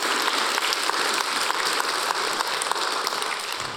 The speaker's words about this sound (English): Well, this past week, somebody came to the church and said, I want to fund a child rescue. I'm going to write a check. So we've already saved the first child through Hope of Life. Because somebody, yeah, we should be clapping about that.